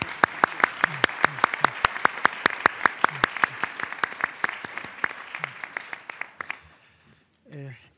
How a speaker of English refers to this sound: And I think all of you may agree with me that they deserve a very good round of applause.